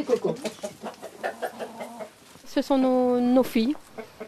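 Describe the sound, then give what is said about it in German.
A couple's pet hens cluck in a quick run of short bursts, followed by one loud, drawn-out call from a hen before the clucking resumes briefly. “Für die beiden sind die Hühner inzwischen weit mehr als nur praktische Müllschlucker.”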